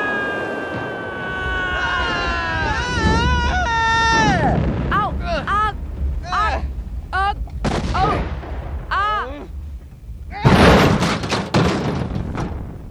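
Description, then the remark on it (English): Warbling sci-fi tones and swooping electronic sweeps build over a rumbling roar, followed by scattered blasts and a sudden loud, crunching impact near the end as a spaceship, hit in crossfire, crash-lands in the middle of a city. “Our ship must have been hit in the crossfire. We came down hard, but...”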